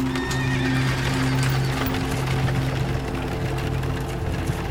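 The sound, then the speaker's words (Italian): Horses pulling a carriage whinny over a steady clatter of hooves as the driver shakes the reins and they turn into the darkness, with a low rumbling drone running underneath throughout. The sound is dense and continuous, with no speech. “Senza una parola, ha scosso le redini. I cavalli si sono girati e siamo sprofondati nell'oscurità.”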